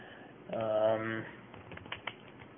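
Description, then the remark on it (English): A brief humming, voice-like tone, then a short run of light, irregular keyboard clicks as someone types an email on a keyboard, a few keystrokes landing sharper than the rest. “Let me write him an email.”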